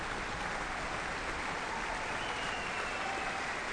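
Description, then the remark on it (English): Dense, steady applause from a large concert audience, with a low rumble of foot stamping underneath, continuing evenly throughout with no talking; the orchestra and audience stamp their feet and applaud for Ekkehard Steer as he returns. “He's back, he's getting foot stamping now, Ekkehard Steer, from the orchestra and the audience, and applause from all sides.”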